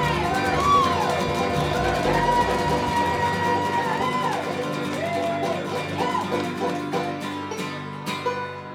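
A crowd applauds and cheers loudly from a short distance, a steady wash of clapping with whoops and shouts over a lingering sustained tone, the sound thinning slightly toward the end.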